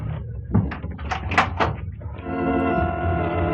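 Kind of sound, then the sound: household object, door being closed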